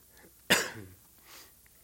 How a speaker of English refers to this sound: I should not cough into the mic.